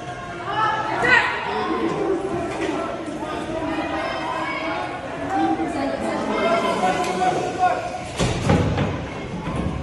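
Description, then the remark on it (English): A noisy crowd clamors while heavy blows smash against doors, ending in a loud crash of glass being shattered; voices shout throughout. “So right now they're smashing up against doors. And there's them shattering the glass.”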